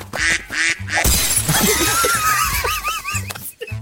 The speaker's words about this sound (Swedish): Det är en gräsand faktiskt.